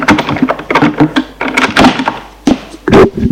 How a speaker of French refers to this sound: Il le fait entrer et ferme la porte.